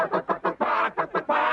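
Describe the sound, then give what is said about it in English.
A hen clucks loudly in a rhythmic cackle, three short clucks, then a drawn-out squawk, with the pattern starting again right after, as she calls and lays an egg in a song on Reading Rainbow. “Oh, listen to her call. And then she lays an egg.”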